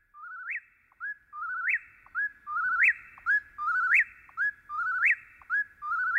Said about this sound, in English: In September of 1851, Henry David Thoreau wrote, "The whippoorwills now begin to sing in earnest about half an hour before sunrise, as if making haste to improve the short time that is left them. They sing for several hours in the early part of the